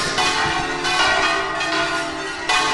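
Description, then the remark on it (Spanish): Church bells ring loudly and continuously, their bright overlapping tones filling the air with a dense, sustained clangor and no voices. “¿Por qué no aprovechan esas campanas y me cuentan lo de Jesús Nazareno de Vera?”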